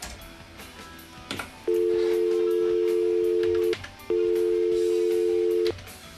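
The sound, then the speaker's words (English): Two long, steady telephone line tones after a caller hung up, each about two seconds, separated by a short gap, loud and clear over a faint background hiss with no one speaking. “No, they hung up.”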